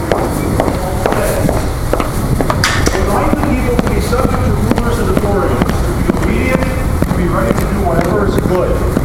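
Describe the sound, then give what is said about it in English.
Footsteps of someone carrying a tape recorder for a class over to a pastor tap out a steady series of sharp, clear strikes for several seconds, with an indistinct murmur of voices running underneath the whole time. “and now you can hear my footsteps.”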